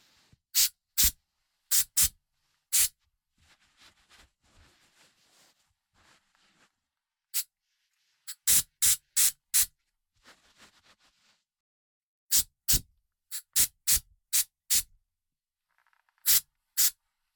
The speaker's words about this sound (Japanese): では、最後の仕上げに入ります。ヘアスプレーでスタイリングですね。